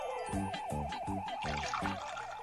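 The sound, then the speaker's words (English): Coffee pours from a new voice-activated machine in a steady stream with a rhythmic gurgling pulse, about four glugs in a row, fairly loud with a faint hum beneath. “Watch this new pup, George. It's voice activated. Pour coffee.”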